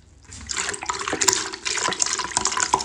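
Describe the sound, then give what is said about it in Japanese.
A steady stream of urine splashes into a bucket, a continuous hissing, trickling pour that begins after a brief quiet start and carries on with uneven, bubbling surges. Some of it spills over the bucket's edge and onto a smartphone. No one speaks. “バケツからちょっとはみ出しちゃったのと、スマホにおしっこかかっちゃった。”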